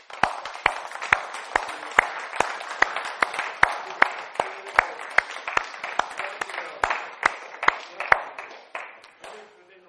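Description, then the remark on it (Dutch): A crowd applauds loudly for the Lord before Easter, the clapping falling into a steady rhythmic beat roughly twice a second over a wash of cheering voices, then thinning out and fading at the end. “Voor de Heer mag je een applaus geven.”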